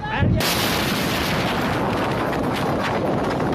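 deadly explosion

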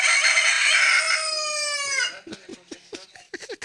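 rooster crowing

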